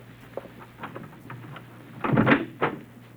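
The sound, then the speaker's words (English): A few soft, evenly spaced footsteps approach a door, followed by a louder clunk and rattle as the door is unlatched and swung open. No one speaks. “She closes the bag and thrusts her right hand in with the pistol into the pocket of her fur coat and gnaws nervously on her lip as she hears someone approach the door.”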